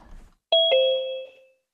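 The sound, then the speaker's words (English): A doorbell chimes a two-note ding-dong, the bright tones ringing clearly and fading out over about a second, with faint room noise just before. “There's bells going off.”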